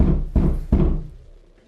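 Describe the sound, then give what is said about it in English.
Several heavy knocks on a door to get a response from the occupant, about three firm raps in quick succession, loud, with a boomy resonance that fades out afterward. No voices. “Chaps every door to get a response.”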